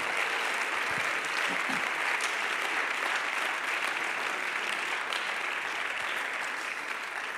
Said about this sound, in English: Somebody say praise the Lord. Let's begin to clap our hands and give God praise and magnify him.